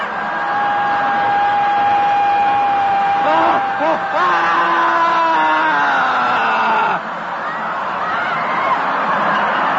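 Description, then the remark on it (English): A group of people screaming and wailing together during the screaming phase of dynamic meditation, raw voices overlapping in long sustained cries with rising and falling pitches, loud and continuous without pause. “The next phase, the screaming phase of dynamic meditation, feels like when you finally had an opportunity to throw a tantrum when you were a little kid.”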